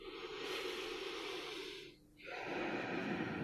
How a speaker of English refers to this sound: All right, so big, deep, slow, relaxed breaths, LSD breathing.